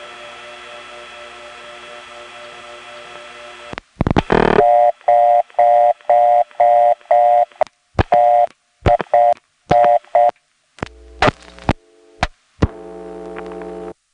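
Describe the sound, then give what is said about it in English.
A steady dial tone breaks into a quick series of touch-tone beeps, evenly spaced key presses dialing an 8-7 code without a 7 first, followed by scattered clicks and short tones on a telephone line with no one speaking. “I'm going to dial one of the other 8-7 codes without a 7 first.”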